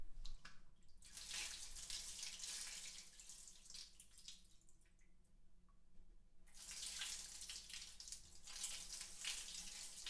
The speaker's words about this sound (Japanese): ご主人様。泡を流しちゃいましょうね。